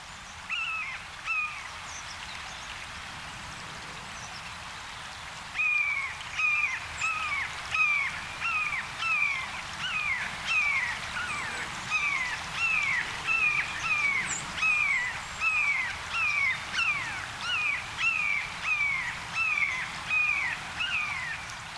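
A bird repeatedly gives loud, clear, downslurred hawk-like screams, a jay mimicking a red-shouldered hawk, in a steady rhythmic series, building from fainter calls to a strong run.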